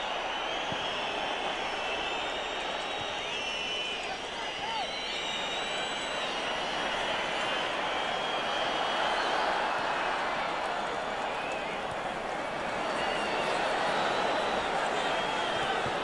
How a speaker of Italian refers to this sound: Siamo nell'ultimo minuto di gioco. Fischi del pubblico perché sta attaccando il Manchester City.